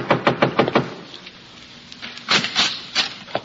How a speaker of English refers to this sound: I'm walking upstairs to Jackson Flat. I'm knocking at the door.